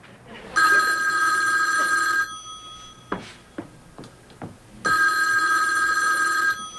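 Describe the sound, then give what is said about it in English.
A telephone rings twice in long, loud trilling bursts, with a pause between them filled by a few soft clicks and knocks. “Look, let me make just a real quick phone call, okay?”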